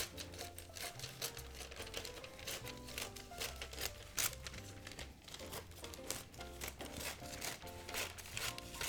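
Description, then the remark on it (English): Paper handling: steady crinkling and rustling with quick, irregular snips and clicks as paper is being cut, over a low tonal background hum. “So, here, let me cut this real quick.”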